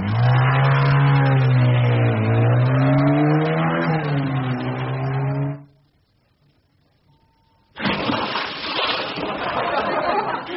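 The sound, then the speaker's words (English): A motorbike, set to be jumped over a 20-foot gorge, revs loudly for about five seconds, its droning pitch rising and dipping, then cuts out into two seconds of silence before a harsh, steady rushing noise takes over. “Well, look out, Evel Knievel, because I'm going to jump on this motorbike over a 20-foot gorge, and if I fail, well, there's a 50-foot drop into a torrential river.”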